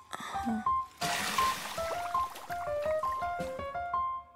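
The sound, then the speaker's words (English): Water pours steadily into a large bathtub for a bubble bath, a continuous rushing splash threaded with bright bubbly gurgles and plinks, with no voices. “I think the bubbles are probably ready now.”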